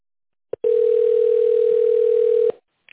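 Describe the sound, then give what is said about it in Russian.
A steady, mid-pitched telephone tone sounds alone for about two seconds, starting and stopping abruptly with faint clicks at each end, followed by a brief soft noise. It is the signal after the automated phone greeting of the company Novatek Electro, prompting the caller to dial an extension or wait for an operator. “После сигнала наберите добавочный номер абонента или дождитесь ответа оператора.”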